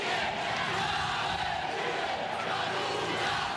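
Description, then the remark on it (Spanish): A loud crowd in a basilica shouts insults continuously, interrupting a Mass presided over by Cardinal Jorge Urosa; members of colectivos, supporters of Nicolás Maduro. Many voices overlap in an angry, dense roar with no pauses for the whole stretch. “Casi al mismo tiempo que el prelado pedía no politizar los actos religiosos, al parecer, miembros de los colectivos, seguidores de Nicolás Maduro, interrumpieron el acto litúrgico con gritos e insultos.”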